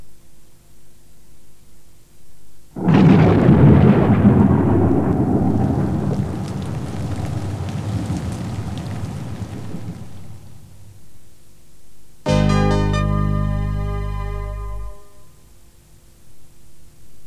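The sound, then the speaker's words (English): A loud crash of thunder breaks into a wash of heavy rain that slowly fades, followed by a short, steady buzzing tone. No one speaks. “There will be rain everywhere.”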